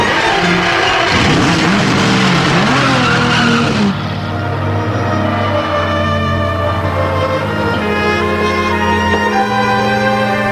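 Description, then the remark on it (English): A car engine revs hard with a burst of gritty tire noise, then settles into a steady, droning rev as a man drives the car away to return it and hand over its keys; loud, no voices. “just roared off in his chariot.”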